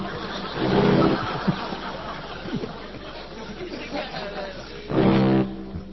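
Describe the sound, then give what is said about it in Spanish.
A car engine running roughly and misfiring, making a strange noise, with two loud, strained bursts about four seconds apart and an uneven, sputtering rumble in between. “El motor hace un ruido extraño. Sí, está fallando.”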